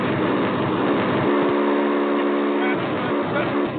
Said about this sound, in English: We can't hear you, Judge, that buzzing sound. Yeah, I don't know what that is. It does sound like a vacuum cleaner.